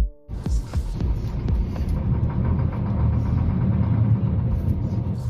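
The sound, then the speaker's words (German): A steady, low bus engine drone fills the ride, throbbing and rumbling continuously, with faint rattles and vibrations riding on top and no one speaking, on a bus trip to a children's hospice in the canton of Zurich. “Ich bin unterwegs im Bus.”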